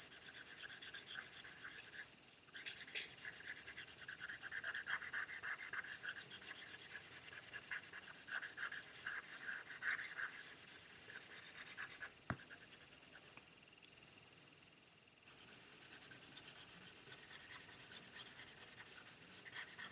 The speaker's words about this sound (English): You can also use crayon or a colored pencil, or pencil for the shading. That's what I'm doing here now.